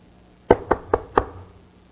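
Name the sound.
knocking on a door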